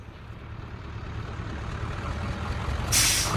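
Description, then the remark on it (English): A low rumbling vehicle engine idles steadily, then a loud hissing burst of air brakes releases near the end as a bus pulls away. “Behind him, a bus pulls away.”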